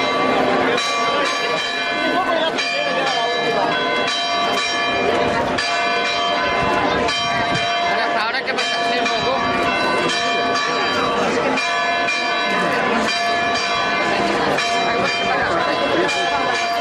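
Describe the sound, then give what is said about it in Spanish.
Church bells ring loudly and continuously at the church in Tapia during the Virgen del Carmen festival, as the Virgin is brought out to the church doors; overlapping peals clang together in a dense, sustained wash of ringing tones with a faint murmur of voices underneath. “En este día de hoy, en el que tenemos pues que acercarnos un poquito al municipio de Tapia para escuchar los sonidos que allí se tienen o se han tenido con la salida de la Virgen a las puertas de la iglesia tocando las campanas.”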